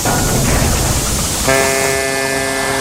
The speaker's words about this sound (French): Un bateau, une corne de brume.